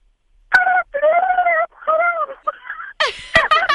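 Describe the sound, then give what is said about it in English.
A person on the Joe and Alex Show imitates a turkey gobble: several wavering, warbly vocal bursts with short gaps, ending in a quicker, higher, rattling flurry. Loud, with no other talk. “Go ahead and let's hear your gobble, please.”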